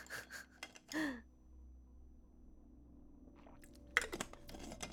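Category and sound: human body sound, drinking water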